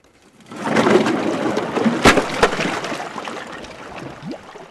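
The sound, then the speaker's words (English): Ice from the Jakobshavn Glacier on Greenland's west coast breaks off and crashes into the sea of a narrow fjord, a rough roaring wash of churning water broken by two sharp cracks in quick succession, then a long rumbling tail. “This is Greenland's ice as it tumbles into the sea.”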